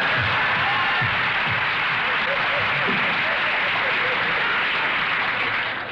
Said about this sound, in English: Thank you. Applause.